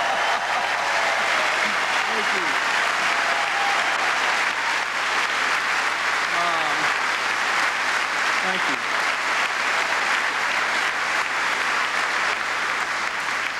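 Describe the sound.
Sustained applause from a large standing audience clapping for George Mitchell fills the whole stretch, a dense steady roar of clapping hands with faint murmurs of voices beneath it.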